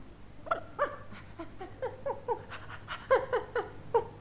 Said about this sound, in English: Nero, good dog.